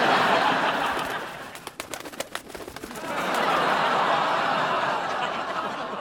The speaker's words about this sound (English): Oh, no. How the hell did a pigeon get in here? You shut the loading doors, right? I thought you did.